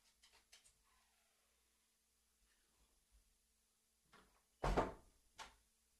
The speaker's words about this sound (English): And we seem to have a dog outside here. I'm going to go close the door over here.